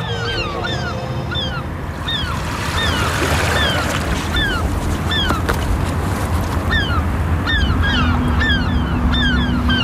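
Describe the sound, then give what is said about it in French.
Many seagulls circle in the sky and cry out again and again at Cherbourg, Normandy, at the tip of a spit of land on the English Channel facing old fortifications. Their sharp, overlapping calls come from several directions over a steady low rumble of water and engines, with no one speaking. “Avec les mouettes qui tournent dans le ciel, là.”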